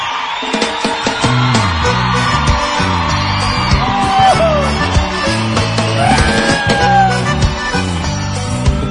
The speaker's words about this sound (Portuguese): Eu quero ver o grito dos solteiros aí!